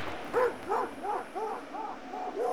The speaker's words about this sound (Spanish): Son los perros de la migra, que se escuchan muy cerca de ellos. Todos se dispersan, Martina corre, los perros no la alcanzan, pero siguen tras de ella.